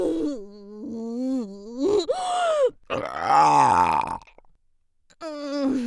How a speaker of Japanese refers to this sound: ゲップ垂れるたびに感度上がってる。